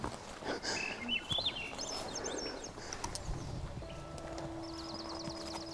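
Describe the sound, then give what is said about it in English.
Birds sing outdoors, trading bright warbling whistles that rise and fall, then a quick repeated trill near the end, set against a low ambient rumble and scattered soft thuds. “Having the birds sing.”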